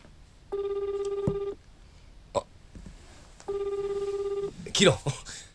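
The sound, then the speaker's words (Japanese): A phone rings twice with an incoming call, each steady electronic ring lasting about a second, with a short gap between, alongside a few brief clicks and voices murmuring in the background. “あ、誰かから電話かかってきた。”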